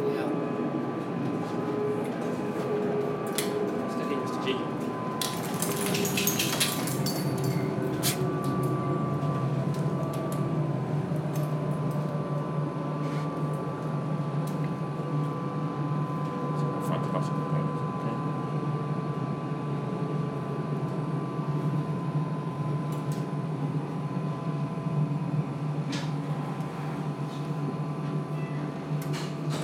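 Steady rumbling interior noise of a moving tram, with a constant low hum, mechanical whine and occasional clatters and a brief burst of hiss, continuous throughout at moderate loudness.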